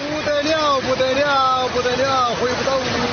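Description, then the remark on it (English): Floodwater from heavy rain gushes steadily down a street in the city of Anshu, China, a loud continuous rushing roar, with a man's voice speaking over it, repeating "unbelievable" in Chinese; recorded on a cell phone. “In a cell phone video taken this week in the city of Anshu, water gushes down the street and a man watches, repeating "unbelievable" over and over in Chinese.”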